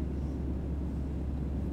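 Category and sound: ambience, airplane cabin engine hum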